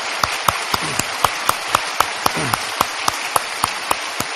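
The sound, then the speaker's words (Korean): A church audience applauds warmly during a worship service to welcome visiting university guests, a dense wash of many hands clapping with sharper claps standing out at a regular, roughly even rhythm throughout. “이 앞자리에들 앉으셨는데, 네, 여러분 뜨거운 박수로 환영해 주시기 바랍니다.”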